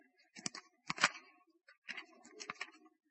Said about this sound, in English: Do I hear your pages turning? Afraid we've gotten out of the habit.